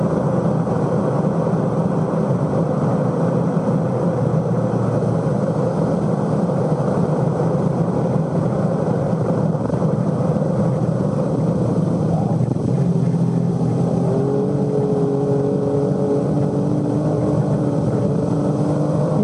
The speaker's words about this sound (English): Fifth gear flat all the way, using all the road, but you must be very clean. Some drivers prefer fourth gear, but I think fifth gear is the best. Here is the maximum speed in the Formula One, 10,500 revs.